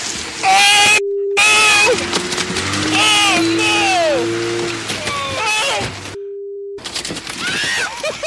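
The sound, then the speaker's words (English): Heavy, constant splashing and thrashing water as a school of Asian carp jumps around boaters on the Wabash River, with people shouting and yelling excitedly over it and two short steady bleep tones cutting in. “Boaters on the Wabash River running into a very aggravated school of Asian carp.”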